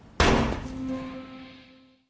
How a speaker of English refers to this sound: So that exchange, as you heard, is cut off by the sound of a gunshot. There's been a shooting in the ATN headquarters, and this is where the episode pivots.